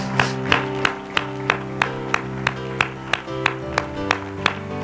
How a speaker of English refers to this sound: Let's give the Lord a clap of praise today.